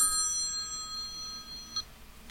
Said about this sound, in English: Do you hear that? Sound like the phone was ringing.